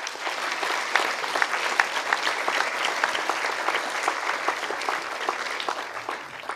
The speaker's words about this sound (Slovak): takže určite aj gastrotímu veľký potlesk.